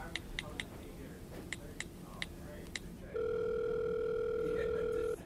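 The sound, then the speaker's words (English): A run of sharp, evenly spaced clicks like buttons being pressed on a borrowed phone as a call is placed, then a loud, steady telephone dial tone hums without a break through the final two seconds, clear. “Give her a call.”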